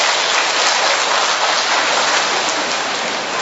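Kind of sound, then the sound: crowd, applause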